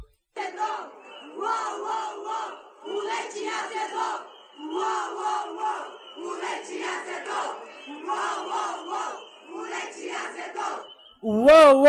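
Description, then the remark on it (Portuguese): Protesters at a motorcade rally, on top of a car, shout in rhythmic bursts of chanting for the government to give them more money: loud, repeated phrases with short pauses between them in a steady protest cadence, ending with a sudden sharp, higher-pitched cry. “É, em cima de um carro, gritando pro governo dar mais dinheiro pra eles poderem comer mais, poder dormir mais, poder trabalhar mais.”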